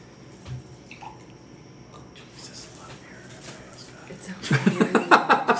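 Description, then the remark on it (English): A hazy yellow beer from Massachusetts pours into a glass with a soft, steady splashing hiss. Toward the end a voice breaks in loudly with talk and chuckling that drowns out the pour. “I always pour it for myself, and then I'm right.”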